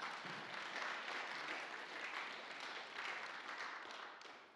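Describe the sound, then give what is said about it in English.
A church audience applauds steadily for several seconds to welcome back two returning people, a dense, even wash of clapping that holds its level before tapering slightly at the end. “Yeah, give them a clap.”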